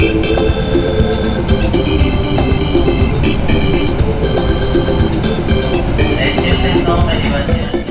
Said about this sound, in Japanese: さてさて、さらに列車に揺られて着いたのが拝島駅です。